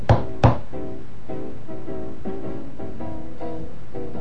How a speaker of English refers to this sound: And so he shouldered his axe and moved forward, right to the doorway. And he knocked on it with his knuckles 3 times.